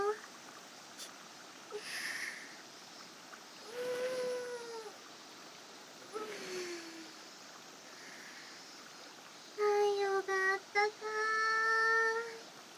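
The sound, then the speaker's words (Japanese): A river stream flows with a steady, soft rushing hiss throughout, while a few brief tonal calls rise above it, including a brighter, pulsing burst near the end. “川の音もいい感じで多分気に入りますよ。”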